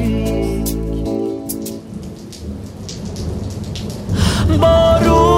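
Steady, soft rainfall hisses throughout while deep thunder rumbles low underneath, framed by sustained musical tones at the beginning and end.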